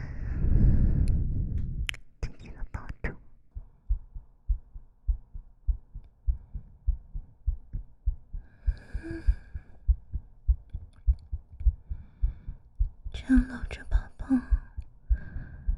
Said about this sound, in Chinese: 抱着你，让你听着自己的心跳声，让你真正的睡过去。